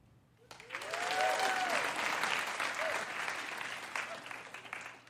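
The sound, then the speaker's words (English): A crowd bursts into sustained applause, dense clapping rising quickly and holding steady for several seconds, with a few faint whoops or cheers mixed in before it begins to thin. The audience at a stand-up comedy show is answering comedian Hannah Einbinder's question by applause. “By a round of applause, how many of you here tonight genuinely believe that you are a good person?”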